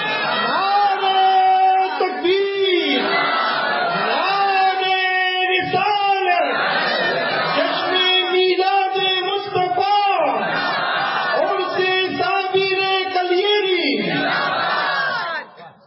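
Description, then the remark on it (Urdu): A large crowd shouts the Islamic Nara-e-Takbeer slogan in unison, loud and sustained, with rhythmic repeated chants rising and falling in waves for the whole stretch. “خالی میں نعرے تکبیر لگوانے کے لیے نہیں، واہ واہ، کچھ لے کر اٹھو سبحان اللہ، تاکہ ڈسکشن کرنے والوں کو تم تابڑتوب جواب دے سکو.”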